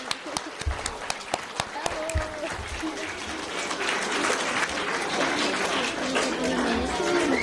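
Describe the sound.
Loud applause from a crowd, starting with a few sharp individual claps and swelling into dense, sustained clapping with some cheering and voices mixed in.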